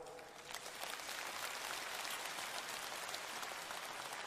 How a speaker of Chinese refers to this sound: 鼓掌的人有一半没听懂，所以师父只能给你们稍加解释。